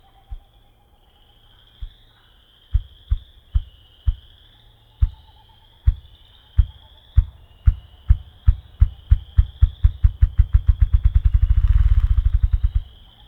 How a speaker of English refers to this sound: One of the lowest pitched bird sounds of the forest is the drumming of the ruffed grouse.